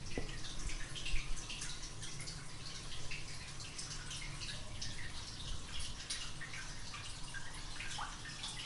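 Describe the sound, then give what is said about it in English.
Water trickles steadily inside a storm drain under a tree, a continuous hollow splashing with scattered drips echoing beneath, with no voices present. “There's another storm drain, so if it's being guarded by a tree that's going to drop water all over me and get me extremely wet, but hey, let's see what this one sounds like.”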